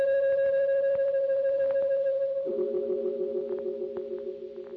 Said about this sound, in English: And there was the sound of a deep-toned bell, clanging thunderously once and echoing across the empty glade.